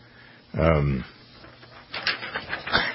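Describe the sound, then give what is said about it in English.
A paper page being turned, a few quick crisp rustles near the end, following a brief low voiced sound from someone. “Are you turning the page?”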